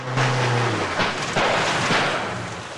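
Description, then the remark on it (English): The propeller engine of Bond's punt on a river drones steadily, then sags in pitch and loses power over a few seconds, half-buried in a broad, rushing wash of noise, with no voices. “The engine on Bond's punt slows down.”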